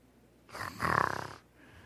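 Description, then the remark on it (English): A person imitates a snore: one drawn-out, rattling snort lasting about a second, close and fairly loud, with no other sounds around it. “Unless, you know, they were praying in snores.”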